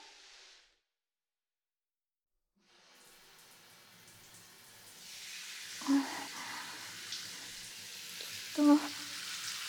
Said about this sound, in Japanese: そろそろシャワーで流しますね。